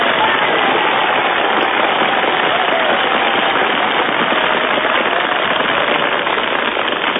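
A crowd applauds steadily for about seven seconds, a dense, loud wash of crackling handclaps that holds an even level throughout with no voices on top.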